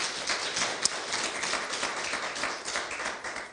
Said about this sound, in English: And thirdly, I'm excited because you could have just stayed in your trailers or your campers this morning, but you decided to come out and worship and praise God. So let's give yourselves a hand clap of praise. Amen.